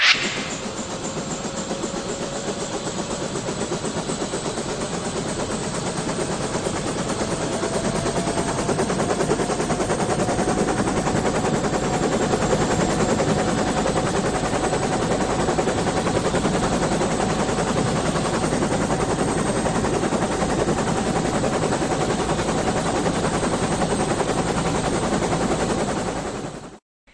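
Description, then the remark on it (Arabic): A 1,300-kilogram helicopter lands on 1,200 eggs placed side by side, its rapid rotor chop steady and loud for nearly half a minute beneath a slowly rising turbine whine, with no voices. “في هذه الصورة طائرة هيليكوبتر بوزن 1300 كيلوغرام تهبط على 1200 بيضة موضوعة بجوار بعضها البعض.”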